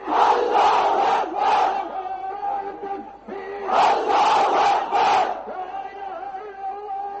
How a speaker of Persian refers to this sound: اینچنین در دکه پایتخت بنگلادش هزاران نفر در نزد مسجد جامع شعار افکندند.